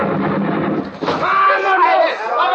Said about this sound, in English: He blasted the bolt off my door with a Tommy gun, and then with a half a dozen of his men, he plunged into the house.